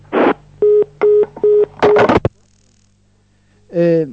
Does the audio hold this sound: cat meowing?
no